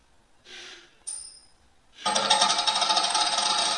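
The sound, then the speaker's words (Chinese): A soft breath, then a bright metallic ping followed by a loud, sustained jangling rattle, like a coin spinning and clattering, an electronic sound effect from a smart speaker's coin-toss game triggered by voice command, with no talking. “我们大家来试一下啊，叮咚叮咚，我要抛硬币。”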